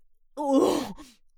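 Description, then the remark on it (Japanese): A single loud, crude pig-like snort through the nose, rough and voiced with a grunting tone, lasting just under a second before trailing off into a faint breathy tail. “超下品な鼻音。”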